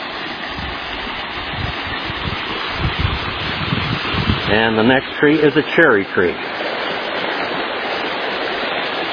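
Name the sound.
flowing creek water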